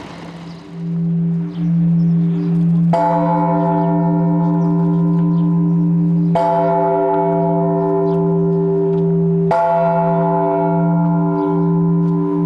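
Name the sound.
church bells ringing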